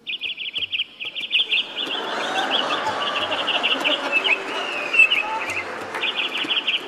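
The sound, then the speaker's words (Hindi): Parrots and mynas perched in a tree outside a resort balcony in the evening chirp in a steady, busy chorus, with rapid high-pitched repeated tweets over a dense layer of chattering birdsong; no one speaks. “शाम को बैल्कनी में खड़े हैं, बाहर एक पेड़ है, पेड़ पे तोता मैना बैठे प्यार कर रहे हैं।”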